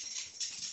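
A dog scratching, heard as a steady, hissy rasping that swells and eases in quick bursts, fairly quiet, with no one talking.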